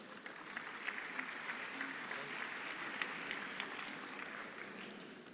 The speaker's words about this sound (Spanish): Recibámoslo con unos fuertes aplausos.